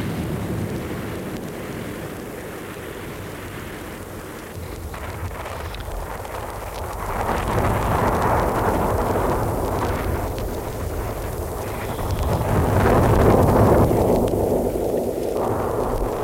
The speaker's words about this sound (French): Un vent terrible ouvert la fenêtre.